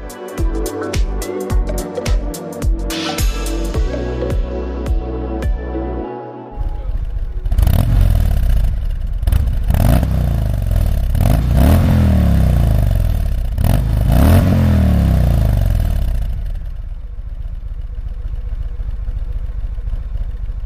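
A Harley-Davidson motorcycle engine idles with a loping, uneven beat, then is revved hard up and down several times in quick succession, loud.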